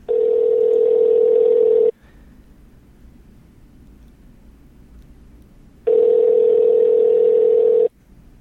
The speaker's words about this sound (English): Let's call Dr. Allen. Let's see if we can get her. Yeah. Oh, it's exciting. It's ringing.